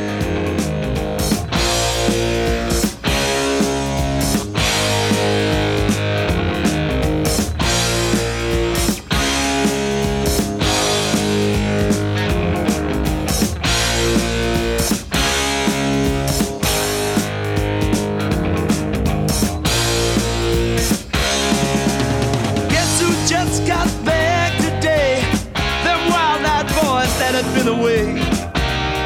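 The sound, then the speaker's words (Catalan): A loud, steady rock song by an Irish band, the song that made the band famous, with distorted electric guitars playing over a driving drum beat, dense and full throughout without pauses. “D'aquest àlbum extrec la cançó que li va donar fama a la banda,”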